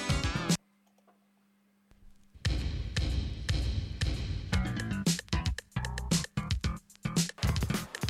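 An early French rap track with a punchy, driving beat and dense layered sound, beginning after a short burst and a near-silent pause carrying a faint low hum.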